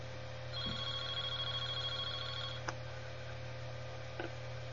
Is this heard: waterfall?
no